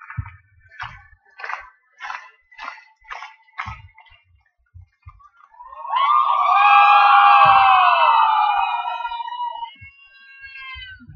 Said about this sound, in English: So let's get some slow clapping started. Go ahead and start slow clapping.